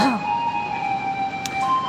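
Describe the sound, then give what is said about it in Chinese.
A garbage truck passing outside, its sustained electronic tune ringing steadily through the whole moment, moderately loud, with no one talking. “对，现在有些垃圾车的声音。”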